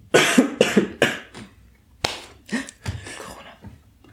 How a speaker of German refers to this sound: Fuck, ich muss husten.